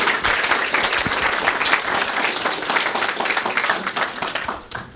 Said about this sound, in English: And keeping in mind that fear of speaking in front of groups is the number one phobia in this country, let's give him a little round of applause as he comes up.